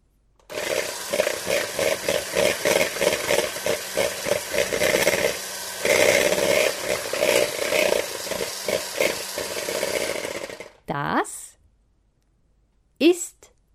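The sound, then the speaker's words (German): An electric kitchen mixer, a device used for baking cakes, whirs steadily for about ten seconds, its motor hum pulsing with a rough, rhythmic chatter, then cuts off, followed by a couple of brief voice sounds. “Ein Mixer.”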